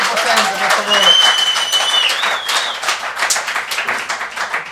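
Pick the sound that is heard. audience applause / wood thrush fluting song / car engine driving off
audience applause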